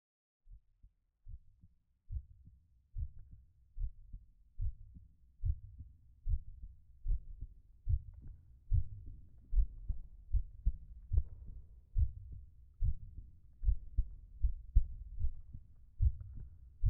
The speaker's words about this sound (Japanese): ママの心臓の音が聞こえるでしょ。心臓の音を聞いてると落ち着くよね。それはね、僕ちゃんがママのお腹の中にいた証拠なんだよ。生まれる前から聞いてた音だから安心するんだね、きっと。